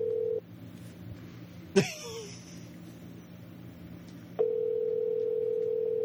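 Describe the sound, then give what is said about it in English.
A steady telephone ringing tone hums briefly, pauses through a quiet stretch with a sharp click, then resumes clearly as an outgoing call rings. No one speaks. “Ring, ring, ring, banana phone. See if he picks up.”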